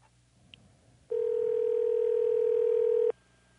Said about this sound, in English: Let's see if this phone call that I'm experimenting with works.